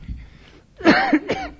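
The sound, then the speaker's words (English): A harsh, throaty cough bursts out, two quick rasping hacks in succession after a moment of quiet, with no talking. “Listen to that cough as well.”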